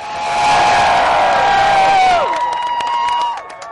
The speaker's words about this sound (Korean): 워싱턴 DC의 연방대법원 건물 앞. 동성결혼을 합법화한다는 대법원의 결정에 사람들의 환호성이 터져나옵니다. 동성의 권리를 위해 싸우는 인권운동가에서부터 동성의 연인과 함께한 젊은이들까지 동성애자들의 상징인 무지개 깃발을 흔들며 기쁨을 감추지 못했지요.